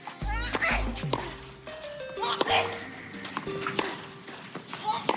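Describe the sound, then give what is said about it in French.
Tennis player Monica Seles grunts sharply as she strikes the ball during a 1993 match against Steffi Graf. Several crisp racket hits are spread across a few seconds over a steady background hum and faint voices. “L'autre particularité de Monica Seles, vous vous en souvenez peut-être, c'était ses cris, voire ses grognements lorsqu'elle frappait la balle.”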